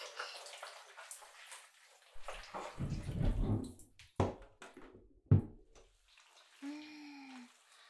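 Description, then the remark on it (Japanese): Water from a shower runs and splashes unevenly as massage oil is rinsed off, broken by a few sharp knocks and thumps, ending with a brief tonal squeak as the flow changes. “シャワー借りますね。”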